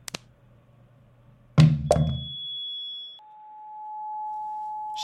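A male contestant from Great Britain knocks over a microphone stand, which topples with a loud double thud and clatter, followed by a steady electronic whine that drops to a lower pitch and lingers; no one speaks.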